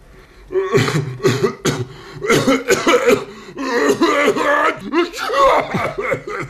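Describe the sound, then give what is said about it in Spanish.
A person forces out a rapid run of loud, voiced bursts combining a sneeze and a cough, a deliberate, exaggerated imitation, with short gaps between the explosive blasts and no speech. “Es una combinación de estornudo y tos.”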